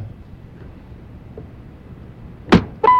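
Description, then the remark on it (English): A hand slaps the top of a small table once, a sharp, flat smack that rings out loudly after near silence, with a second brief hit just at the end. “Right, you hit the top of the little right. table there. Just kind of slapped it.”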